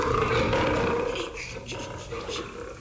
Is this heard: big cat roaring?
yes